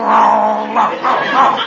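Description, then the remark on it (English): A man on all fours growls like a dog, a low, rough, sustained snarl that swells in a few uneven pulses for under two seconds, with no other sounds around it. “He growls, so I'll growl.”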